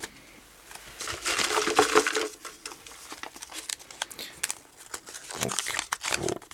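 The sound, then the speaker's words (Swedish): Crisp paper rustling and crinkling as a small paper slip is drawn from a shaken trophy and unfolded, with scattered soft crackles and a brief brighter rattle early on, no voices. “Vi skakar pokalen och drar en papperslapp. Och vecklar ut den”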